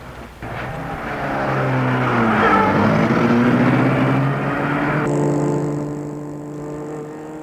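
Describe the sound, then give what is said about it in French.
A car engine starts and revs up, then the car accelerates away, its engine tone rising steadily and staying loud throughout. “Frédéric se met derrière et le voit, lui dit salut, et Gilles met la voiture en route.”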